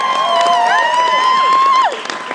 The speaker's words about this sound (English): See, I promise you a round of applause and you've got it.